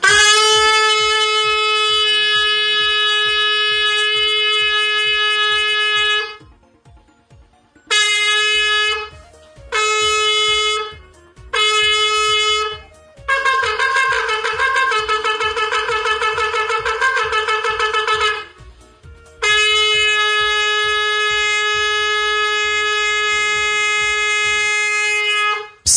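Loud, brassy shofar blasts with no talking, played back from a recording made that day: a long sustained tekiah note, three short blasts, a stretch of rapid wavering staccato notes, then another long steady blast.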